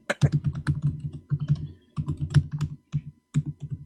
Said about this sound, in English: I just heard all that keyboard tapping. It sounded like you were looking it up.